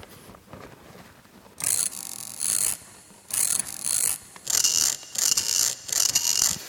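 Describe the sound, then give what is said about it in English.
A ratchet-like mechanical clicking comes in roughly eight short, bright rasping bursts, each a rapid run of crisp clicks, separated by brief pauses after a quiet opening second. No one speaks. “This third one is a ratchet-like interaction.”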